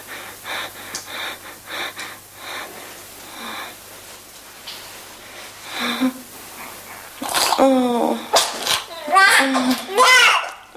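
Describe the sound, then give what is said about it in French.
Breathy gasps and sniffling lead into a newborn's first cries at birth, a few loud, shrill, wavering wails in the final seconds. “Premier cri.”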